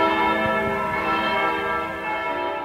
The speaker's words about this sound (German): Besonders erhebend ist immer das Feierabendläuten am Samstagnachmittag um 3. Da kann man eben alle Glocken im Zusammenspiel hören und weithin übers Land, und das ist wirklich ein wie Musik, es geht unter die Haut.